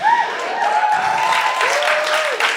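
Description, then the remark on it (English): A large audience applauds loudly, a dense, steady wash of clapping with a few whistles rising above it, continuing without pause from start to finish. “That's the most applause consecutively ever that I've ever received.”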